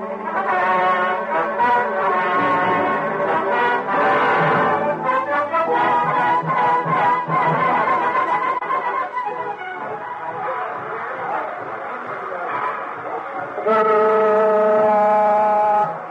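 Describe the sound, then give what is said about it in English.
The steam locomotive whistle of the first train on the new Santa Fe railroad tracks toots in celebration in loud, sustained, multi-toned blasts that run almost continuously, shifting pitch between toots, with a final bright blast after a brief dip. “Oh, Jake, must you toot that whistle?”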